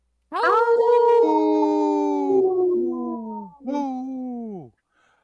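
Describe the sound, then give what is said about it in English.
A human voice imitates a wolf howl: a loud, long wavering cry that swoops up and slowly slides down in pitch, then a shorter second howl that falls away. “wanted to stick around for a quick howl, so we gave it to her.”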